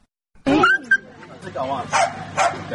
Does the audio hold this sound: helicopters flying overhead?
no